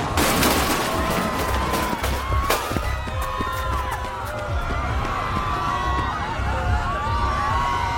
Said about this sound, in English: He looks right at me and raises it. Before I can react, I hear a gunshot.